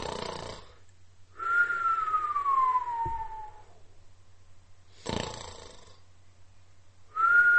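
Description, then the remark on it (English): A shaky, breathy whistle slides downward in pitch over a couple of seconds, then breaks off with puffs of air before starting again, thin and unsteady, with no talking. “That is the worst attempt at a whistle I've ever heard in my life.”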